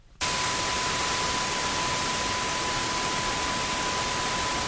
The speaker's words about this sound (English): And we have to try to hear that other sound in the midst of that. That's right, and it's not going to be obvious, and so we do a lot of work to try to hear this very subtle beep in the middle of a sea of noise.